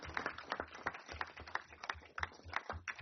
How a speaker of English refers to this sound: Let's give him a round of applause just for that. That's incredible.